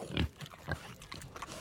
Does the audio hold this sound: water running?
no